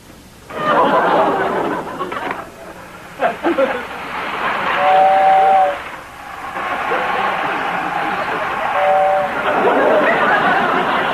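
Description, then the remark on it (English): A toy electric train whirs and rattles steadily for several seconds, sounding two short, high whistle toots partway through while the running noise continues. “I'll play with my own electric train.”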